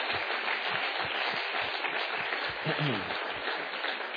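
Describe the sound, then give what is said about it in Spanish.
An audience applauding the Lord steadily, a dense wash of many hands clapping at once, loud and sustained throughout, with a brief voice murmuring faintly beneath the clapping. “Date un applauso all'Eterno per loro.”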